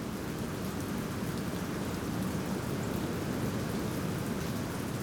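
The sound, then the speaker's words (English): Heavy rain pours down in a steady, dense hiss, with a deeper rumbling wash underneath. It stays constant throughout, with no voices. “A downpour of rain”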